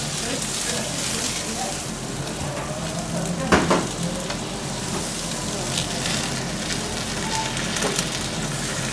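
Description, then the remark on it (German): Chicory sizzling in butter in a pan, a steady crackle and hiss throughout with a brief louder spatter burst near the middle. “Das brutzelt richtig schön jetzt.”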